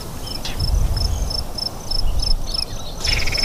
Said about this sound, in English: That trill we're hearing is a spotted towhee. And the books describe the song as drink your tea, but I never really went for that. I think more of an inverted Beethoven's fifth. Dot, dot, dot, trill.